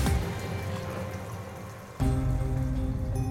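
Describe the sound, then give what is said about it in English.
Steady rain falls and patters on a surface, dense and continuous, with a deeper rumble swelling in partway through. No voices are heard. “The two men piled inside with the bags of money, then sped away into the rain.”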